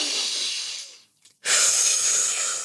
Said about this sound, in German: Der herabschauende Hund aktiviert unser Herz-Kreislauf-System, versorgt unseren Körper mit viel frischem Sauerstoff, atmet nochmal ein.